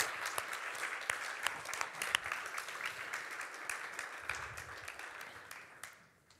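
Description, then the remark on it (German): An audience applauds steadily during a sermon, a dense wash of many hands clapping, holding for several seconds before tapering off at the end. “Ich glaube, das hat den letzten Applaus verdient.”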